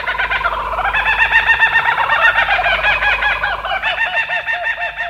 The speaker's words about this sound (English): Yep, Australia's laughing kookaburra is a member of the kingfisher family. And it's been known to dispatch snakes up to 3 feet in length.